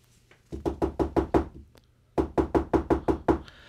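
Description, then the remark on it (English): Two quick bursts of firm knocking on a door, about six raps then seven, separated by a short pause. The knocks are loud and evenly spaced, with no voices. “"Goodness gracious," said Percy, "it's the door again."”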